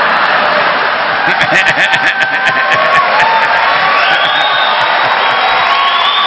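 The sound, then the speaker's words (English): A crowd cheers and whoops loudly, with a steady wash of applause underneath and high shouts rising over it, sustained for several seconds. “See, they're applauding flames.”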